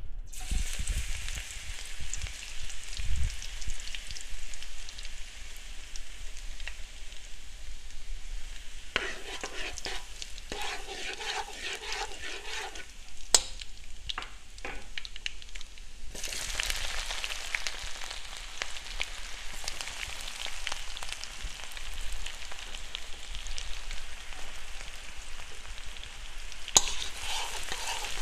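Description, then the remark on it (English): Garlic sizzles and crackles steadily in hot olive oil as the saute step of a Penang curry, with bursts of scraping and clattering as it's stirred around the pan to keep it from burning. The hiss stays broad and constant throughout, with no talking. “So for the saute part, I'm going to be using olive oil if I can find any, and then I'm just going to whip it up and fry it.”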